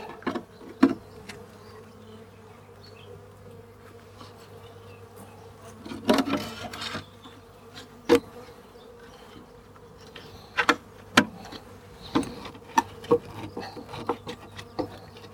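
A dense, steady drone of many honeybees buzzing in an open hive as a beekeeper carefully pulls out a thermal sheet and rearranges the frames, with scattered sharp wooden knocks and scraping sounds breaking through the hum.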